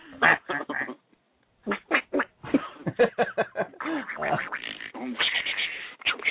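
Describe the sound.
A person imitates a duck, letting out a rapid string of nasal, raspy quacking squawks, pausing briefly before continuing with another lively burst.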